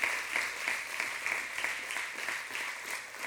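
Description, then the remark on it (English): Steady crowd applause from many hands at a church's 11th anniversary, given to one of the families that helped start the church; a dense, even patter of claps holding at a fairly loud level throughout with no voices standing out. “And I want you guys to see them and give a big hand clap.”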